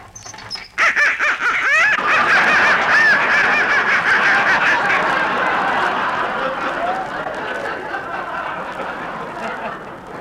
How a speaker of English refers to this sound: Now, look, that noise came from some live ducks I've got in the basement.